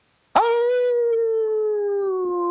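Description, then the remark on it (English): A caller to the Old Dogs REI Network show imitates a dog's howl: one long, loud, steady wail that starts abruptly and slowly sinks in pitch, holding for over two seconds with no talking. “Your old dog howl before you go?”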